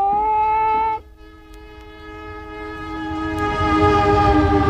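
The horn of the Amtrak Freedom Train blasts a loud, sustained chord as the train leaves the Oakland, California terminal, carrying some 75 passengers to the National March on Washington. The horn cuts off after about a second, then a lingering tonal hum continues as the low rumbling of the moving train grows steadily louder.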